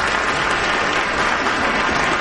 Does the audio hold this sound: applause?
yes